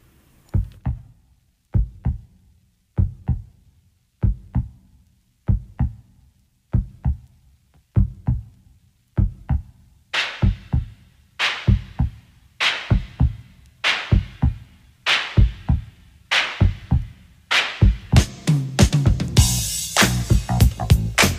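A mid-80s dance track opens on a deep, thumping double-pulse bass line like a heartbeat; about halfway through, crisp drums and cymbals join and the groove builds louder. No voices.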